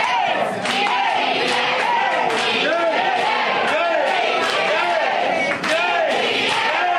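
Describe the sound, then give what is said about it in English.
A dense crowd of voices chanting and shouting over one another in the main dining area, as Congressman Matt Gates greets the lunchtime crowd in Milton, with rival rhythmic chants clashing continuously and loudly, punctuated by occasional sharp thumps and claps. “Once inside, Gates moved through the main dining area, greeting the lunchtime crowd to the sound of competing chanters.”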